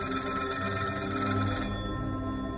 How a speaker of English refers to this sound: I definitely try and stop her. And at that moment, the phone rings.